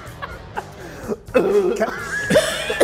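Someone coughs and sputters after choking on a nacho chip, a string of sharp, irregular bursts that turn into strained, raspy choking sounds, sometimes edging toward a laugh.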